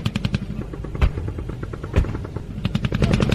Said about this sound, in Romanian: Inamicul, care inițial a fost dezorganizat de către focul artileriei, ripostează cu foc încercând să mențină poziția.